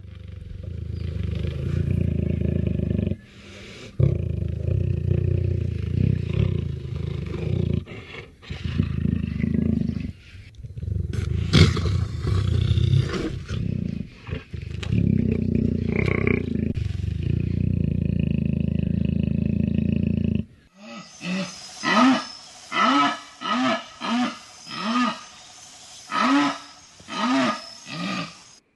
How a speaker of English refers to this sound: Three different sounds there, from a jaguar purring, a couple other calls.